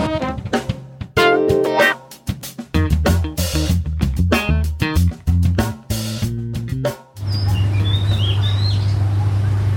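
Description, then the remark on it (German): Upbeat rhythmic music plays for most of the time, then cuts to a quiet outdoor ambience where a few small birds chirp in short, high, rising calls. “Und zwischendurch werde ich immer mal so ein paar Tonaufnahmen machen, wenn ich irgendwie Vögel, Straßenlärm oder so eine Geschichten halt habe, die ich denke, die ganz interessant sind.”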